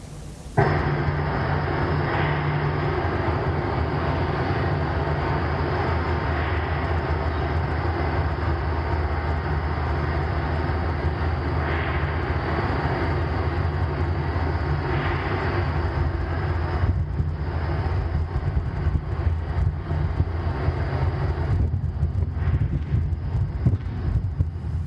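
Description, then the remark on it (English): A low, faint series of rhythmic knocks, multiple strikes on metal, sits under a dense, steady drone of cicadas, the strikes repeating throughout with no one talking. “What you'll hear in the background behind the cicadas is a lot of sort of a rhythmic sort of a bang, and you'll hear it again.”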